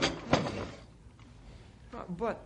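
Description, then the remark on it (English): A desk drawer holding papers slides open with a quick scraping rattle ending in a solid clunk, followed by a quiet pause before a voice briefly speaks. “The papers are still here in my desk drawer where I put them after I talked to you.”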